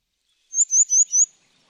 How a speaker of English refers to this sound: The writer Polly Atkin takes a moment to hear the song of the grey wagtail.